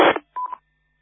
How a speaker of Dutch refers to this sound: 40, oh, ik word gebeld. Wacht even, ogenblikje, ik ben even aan de telefoon.